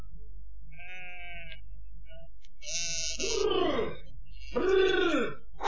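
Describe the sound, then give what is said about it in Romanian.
Several sheep of a flock returning from grazing bleat in turn, a thin call followed by two louder, wavering bleats, over a low steady rumble of background noise. “Jecmănoiu s-a hotărât să-l întrebe pe Păcală, care tocmai se întoarce cu turma de la păscut.”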